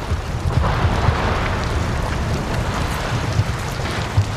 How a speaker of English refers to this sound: And you get this rain sound, but you get the echoing from the chamber of the iceberg, and as pieces crack off the roof and fall down, it creates this thunderous echo, which if you close your eyes, it sounds exactly like a thunderstorm.